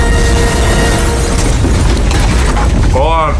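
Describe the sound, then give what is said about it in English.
A loud, sustained crash-and-explosion roar as Luke Wilson's spaceship crashes into a house in the film Idiocracy, dense rumbling noise throughout, ending with a wavering, rising whine over the din. “So the world's ending And then Luke Wilson's spaceship crashes into his place.”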